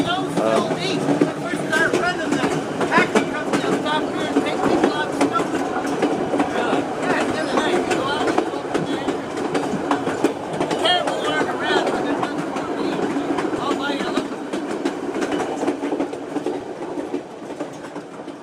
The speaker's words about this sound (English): It's been a really fun day. We had a great hike in the morning, and now we're having this great train ride, which is really a good way to finish a trip.